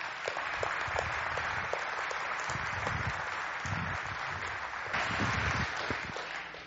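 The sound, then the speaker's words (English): An audience welcoming a guest speaker applauds steadily, many hands clapping in a dense, continuous patter that holds at an even loudness for several seconds, swelling slightly near the end. “I'm not used to applause before I speak.”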